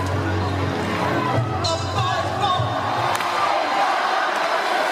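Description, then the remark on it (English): A large concert crowd keeps singing along and cheers loudly and continuously after the performer stops playing, with dense overlapping voices and a few higher whoops rising out of the roar of the mass of people. “But listen to the crowd. How into it they keep singing.”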